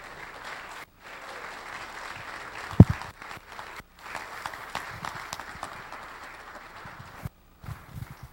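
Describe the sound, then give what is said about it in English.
A crowd at a Delray Church service claps steadily to welcome a guest speaker up, a dense, sustained wash of applause lasting several seconds, with a brief dip partway through and a sharp thump near the middle. “That said, let us encourage and edify our brother with a big round of applause to welcome him up here.”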